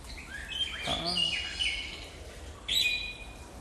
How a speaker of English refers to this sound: Who's that calling? I'm not sure which bird that is.